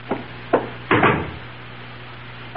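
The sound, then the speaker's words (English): Two sharp knocks on a door by a porter with a package, then a louder, longer clatter as the door is opened, followed by a faint click at the end, over a low steady hum with no voices. “Someone's at my door.”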